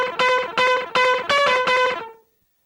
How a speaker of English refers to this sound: How did you make that sound? Okay, so yeah, I played that keyboard part, and that is the same sample. It's the same as this one. Yeah. And so you're just basically pressing and releasing the key really quickly so it only plays the first note of the